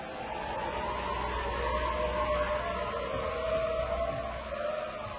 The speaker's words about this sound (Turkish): Zavallı kurtları duymuyor musunuz? Açlıktan neredeyse ölecekler.